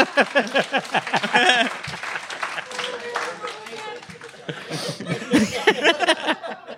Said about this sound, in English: Yes, that is a warranted applause break.